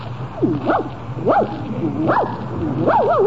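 A small dog gives about four high, yappy barks in quick succession, each with a sharp rising-and-falling pitch, heard fairly close against a low background hum.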